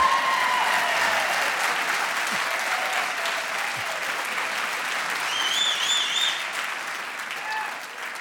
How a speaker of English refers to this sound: Let's have the applause again, and go!